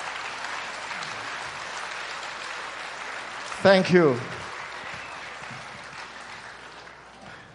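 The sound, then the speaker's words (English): A large church audience at the 20th anniversary of Jia'en Church claps steadily throughout for the members who have been there since its beginning 20 years ago, a broad wash of applause, with a brief spoken voice cutting in partway through over the clapping. “Give them a big, big, big hand clap.”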